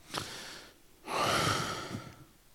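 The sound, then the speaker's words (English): A person imitates the heavy breathing of a moviegoer heard during a screening of The Bank Job: a short raspy inhale, a pause, then a long, loud, wheezy exhale with a whistling edge, fading out. “but my son was quieter next to me at 10,000 BC than the heavy breather was next to me during the bank job.”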